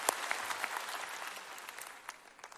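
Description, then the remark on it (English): A church audience breaks into steady applause, cheering for people who gave to the church for the first time, a dense wash of many hands clapping with a few sharper individual claps standing out, sustained throughout without any talking. “Let's cheer for them.”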